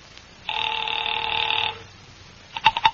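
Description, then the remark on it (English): A telephone rings in one steady, bright burst of just over a second, followed after a pause by a quick run of three or four sharp clicks, like a rotary dial turning back, as someone doodles with the telephone's dial. “Mallard left and I took the slip of paper he'd given me with Ayers' phone number on it, sat down by Amici's pet aversion and doodled with the dial.”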